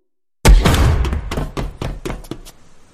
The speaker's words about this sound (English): As our heroes burst through the door